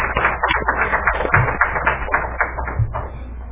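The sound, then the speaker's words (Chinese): A church audience claps together for a few seconds to welcome first-time visitors, a dense, steady patter of many hands at an even, moderate loudness, with no voices over it. “掌声欢迎， 欢迎。”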